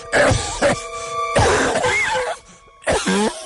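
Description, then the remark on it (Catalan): A voice imitates an odd, artificial-sounding cough: a few harsh, throaty hacks and throat-clearing bursts in quick succession, fairly loud, with a brief pause before a final strained cough. “Però a mig dinar, quan ja arribàvem a les postres, em va venir com una tos rara, una cosa artificial.”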